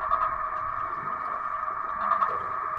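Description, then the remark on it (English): A hydrophone receiver dropped into a river plays acoustic fish tag code signals, codes identifying exactly which tagged fish is swimming by, as a steady, buzzing mid-pitched electronic tone with faint pulsing texture, holding at an even loudness for the whole stretch with no talking. “Broderson explained that the sounds the tags emit are codes that allow them to identify exactly which tagged fish is swimming by.”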